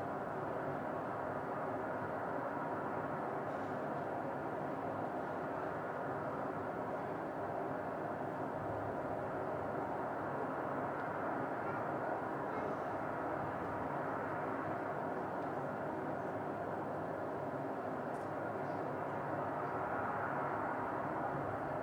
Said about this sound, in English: And this kind of roar is from the wind whipping down the whole valley. So those are pretty subtle.